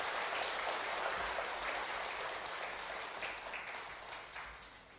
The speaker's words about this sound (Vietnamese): Nếu quý cô, quý bà cảm thấy năm lời dạy cao quý nêu trên của Phật Thích Ca trong Kinh Thiền Sinh là rất sâu sắc và nên áp dụng, thì hãy cho một tràng vỗ tay để cam kết nào.